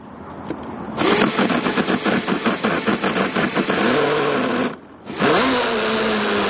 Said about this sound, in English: Under his arm, Gordon Kornbau has been carrying a radio-controlled, gas-powered model boat. As the dog chases the geese into the water, he drops the boat into the pond.